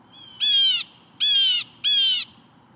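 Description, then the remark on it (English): A jay's harsh alarm call rings out three times in a steady rhythm, each raspy, squawking burst lasting about half a second, loud against a quiet background. “The alarm call of the jay helps protect not only the jay and its kin, but all those smaller birds, too.”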